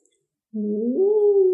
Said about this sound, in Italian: Buongiorno, signor lupo. Buongiorno, topolina. Oh, che bel ululato.